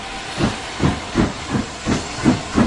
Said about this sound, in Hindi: और फिर कुछ देर के बाद इंजन ने फिर से विसल दी और ट्रेन रेंगती हुई आगे बढ़ने लगी।